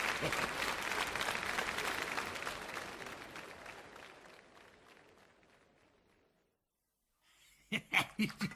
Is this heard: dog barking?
no